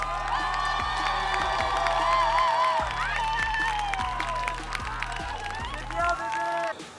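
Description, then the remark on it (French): A boxing crowd of supporters with signs at the ring cheers and shouts steadily, a dense roar of many voices with whoops and yells rising over a low, rhythmic thumping beat throughout. “Ça m'a fait des chatouilles dans le ventre de voir toutes ces personnes magnifiques venues pour crier leur soutien inconditionnel avec des pancartes tout aussi magnifiques les unes que les autres.”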